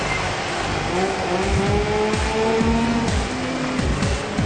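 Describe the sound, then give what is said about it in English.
A racing motorbike engine in the game PGR screams loudly and continuously, its pitch climbing and dropping through rapid gear changes as the bike slides around a corner, chases cars in the wet and pulls a wheelie, with tires squealing underneath and no voices. “Chasing those cars down in the wet, pulling a wheelie.”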